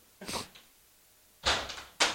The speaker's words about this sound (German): bevor der dann jetzt rausgerannt ist und hier die Tür zugeknallt hat